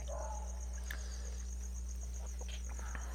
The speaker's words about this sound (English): So we're sitting outside in my backyard. That's why you're hearing the crickets and the dogs and barking. And crickets and chicks and things.